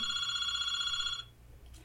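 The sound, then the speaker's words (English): A fax machine rings with a steady, shrill electronic tone that holds for just over a second and then cuts off, leaving a faint low room hum. “That could be a fax machine ringing.”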